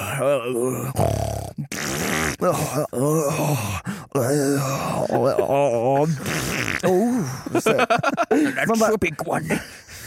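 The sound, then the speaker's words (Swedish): A voice makes a string of loud fart imitations, mimicking people farting in a shared dormitory: wet raspberries mixed with groaning, wavering tones that run almost continuously, ending in a quicker flurry of short sputtering bursts. “Man hör ju folk pruttar liksom lite längre bort.”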